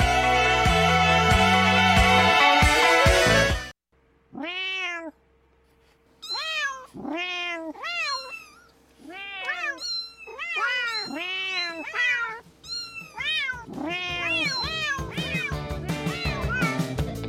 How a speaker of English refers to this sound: And in case you don't speak cat